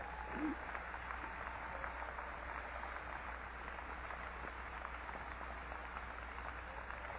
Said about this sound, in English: Well, praise the Lord. Say praise the Lord, young people. Give God a good little clap offering here for a minute.